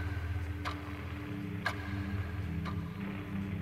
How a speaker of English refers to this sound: Now, what I want you to do is close your eyes, and I want you to allow yourself to feel your body gradually relax. Listen to the sound of the clock as it makes you more and more relaxed.